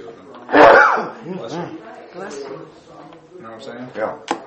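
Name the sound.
sneeze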